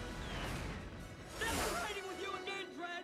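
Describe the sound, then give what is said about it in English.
A malfunctioning Lawmaster motorcycle spins sideways with a loud rushing whoosh and crashes into a building in a dense, noisy crash, while voices shout and cry out amid the commotion. “Dredd grabs Fergie, screaming from the malfunctioning Lawmaster, which spins sideways and crashes into a building.”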